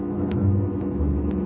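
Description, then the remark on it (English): A car engine rumbles low and steady as the car comes up the road toward the listeners, holding a fairly even level with a few faint clicks above it and no voices. “Yeah, I hear it. He's coming up the road toward us.”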